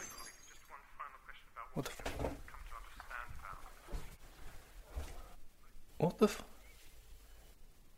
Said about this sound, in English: You knocked over a glass. It's fine, I understand.